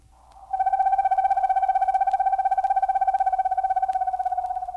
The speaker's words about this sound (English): Screech Owl